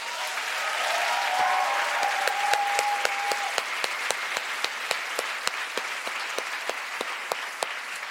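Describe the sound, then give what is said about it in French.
An audience applauds steadily for several seconds, celebrating the adoption of a law on 12 July 2023, the dense clapping settling into a few sharper individual claps toward the end, with a brief whistle early on. “C'est incroyable, on peut l'applaudir.”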